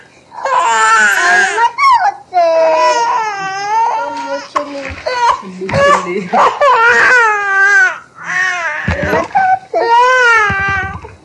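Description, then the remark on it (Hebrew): A baby boy cries loudly in repeated wailing bursts with brief breaths between while being held, continuing for the whole stretch with no other sounds underneath. “הוא בוכה.”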